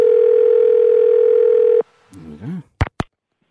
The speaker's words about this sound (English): Right, I'll just put the numbers in the phone here. And let's just ring this person here now.